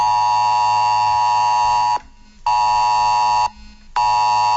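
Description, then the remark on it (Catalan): A loud, harsh electronic alarm tone blares in long bursts of about two seconds, separated by short gaps: the emergency alert that sounded on all mobile phones in Tarragona, the Terres de l'Ebre and the Penedès around 10 a.m., a Protecció Civil de la Generalitat test of the S-Alert system. No voices. “Aquest és el soroll que ha ressonat en tots els telèfons mòbils de Tarragona, les Terres de l'Ebre i el Penedès sobre les 10 del matí.”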